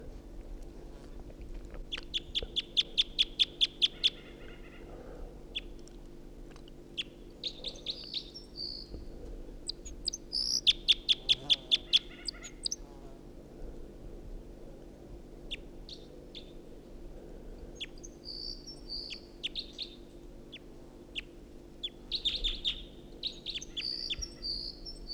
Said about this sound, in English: Got two singing birds here. I got one right above me and another in the tree above the net.